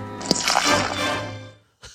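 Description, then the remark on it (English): Gatorade pours steadily into a cup with wet, gurgling splashes for over a second, then stops; after a short pause comes a brief liquid splash as the cup is splashed over a man's face. Nobody speaks. “So in that clip, you hear the pouring. He's pouring a cup of Gatorade, and then he says he has a drinking problem and just splashes the cup all over his face.”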